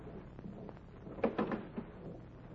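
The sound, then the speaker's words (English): A door is opened: a quick cluster of latch clicks and knocks midway, then one softer thud, over a quiet background hum. Nobody speaks. “Well, open the door.”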